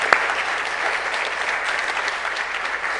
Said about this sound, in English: You know, you have a great staff here. Why don't we just give them just a little bit of applause here because of the great job they do.